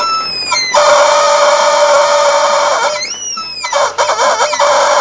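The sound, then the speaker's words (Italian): A rooster crows loudly, two long, strained calls in quick succession, the second breaking into choppy, cluck-like bursts. No one speaks. “Il pollo.”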